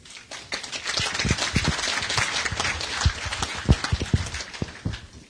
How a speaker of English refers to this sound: Let's have another round of applause for all the plenary speakers, breakout session presenters, and for each and every one of you.